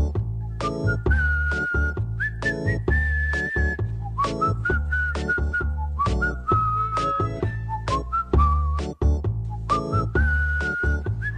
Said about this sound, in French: Allez, on siffle. Oui, oui. Un, deux.